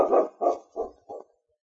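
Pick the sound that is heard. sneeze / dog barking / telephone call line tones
dog barking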